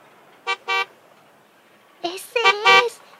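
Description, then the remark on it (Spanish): The blue car of Victorio Gato arrives, its horn honking twice in quick short toots, then after a pause blaring out a longer, wavering run of honks, loud against an otherwise quiet background. “¡Ahí viene el carro azul de Victorio Gato!”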